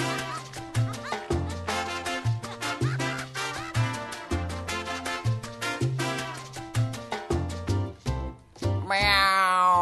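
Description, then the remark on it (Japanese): Cat meows come one after another in a steady, almost musical rhythm, loud, with a sustained, higher cry near the end. No one speaks. “これただの猫の声。”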